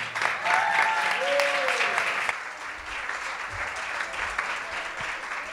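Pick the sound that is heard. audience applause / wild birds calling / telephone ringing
audience applause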